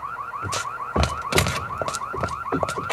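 An electronic alarm, linked directly to the police, blares with a rapid, repeating warbling chirp, steady and fairly loud, while several sharp thuds and knocks land over it at irregular intervals.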